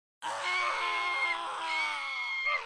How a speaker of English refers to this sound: a scream and several others sliced through their ears with the piercing effectiveness of a knife.